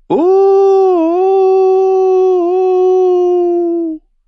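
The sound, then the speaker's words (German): A boy's voice imitates a wolf's howl with one long, loud, sustained note lasting about four seconds. It wavers slightly in pitch, with no other sounds. “Er heulte.”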